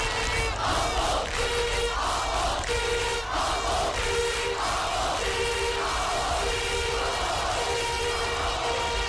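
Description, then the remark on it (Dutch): A large crowd at Rotterdam city hall in 1970, as the Feyenoord players appear on the balcony, calls out for coach Happel. It chants in a steady, repeated rhythm, roughly six loud rising calls over a constant roar of voices. “Ridder Moulijn glundert, terwijl het publiek om trainer Happel roept.”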